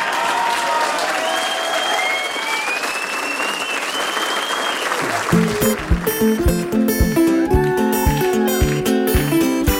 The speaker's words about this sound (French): Et je pense que vous pouvez applaudir aussi